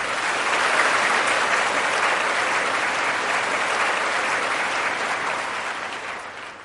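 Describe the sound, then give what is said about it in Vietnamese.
Sustained audience applause at a Buddhist program, given at the host's request to welcome a Buddhist lay follower: a dense wash of many hands clapping steadily at full volume for several seconds before tapering slightly at the end, with no voices over it. “Bây giờ Đạo Phật xin quý vị hãy cho một tràng pháo tay thật lớn để chào đón Phật tử”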